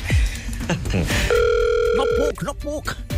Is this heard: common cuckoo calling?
no